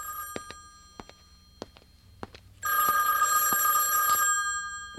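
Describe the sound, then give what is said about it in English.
A loud, shrill telephone bell starts ringing partway through and keeps ringing steadily, after a few sharp knocks and thumps. “We need to have a little talk after I get the phone.”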